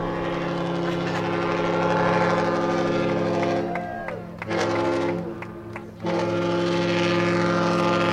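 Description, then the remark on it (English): The large research vessel Sikulyak arriving at port in Woods Hole, its engines a deep, steady droning rumble with layered low tones. The noise briefly thins and wavers midway before returning at full strength. “another thing we just heard in that little montage of audio clips was some sound from the arrival of the research vessel Sikulyak in Woods Hole.”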